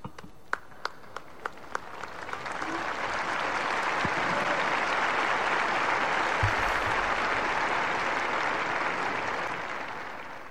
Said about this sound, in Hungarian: A mai napon is a szokásos tapsviharral ér véget az általános audiencia a vatikáni Szentpéter téren.